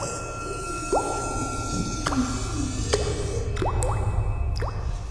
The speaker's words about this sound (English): That they lay on the bed cut into pieces, while the knife dripped down thick blood that produced a dreary plop with every drop that fed the puddle.